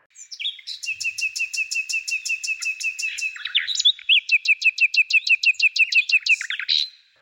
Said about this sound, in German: Also kämpfen gesanglich gegeneinander. Nachtigallen zum Beispiel. Die treten in direkten Sangeswettstreit und versuchen sich gegenseitig zu übertrumpfen.